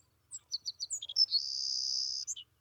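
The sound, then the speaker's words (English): A grassland songbird sings alone, a few quick, high chirps leading into a long, thin, buzzing trill that ends with a couple of short notes. It sounds clear. “It lives in the grassland. It comes just as the grass is getting tall, builds its nest, stays here and fattens up really well on all our wonderful grass seed, and then heads south.”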